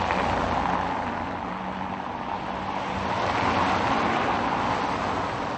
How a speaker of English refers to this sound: There seems to be no end in sight to the rush of cars on Milada Horáková Avenue in Prague, one of the main arteries leading through the Czech capital. It is a day when temperatures are soaring to record highs.